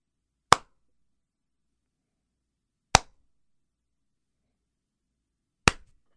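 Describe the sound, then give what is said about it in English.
Three slow, deliberately spaced single hand claps from the comedy piece The Sarcastic Clapping Family of Southampton, each a sharp, crisp smack with long silent pauses between them and no voices, a mocking, unenthusiastic applause. “That move was from a piece that I co-wrote entitled The Sarcastic Clapping Family of Southampton.”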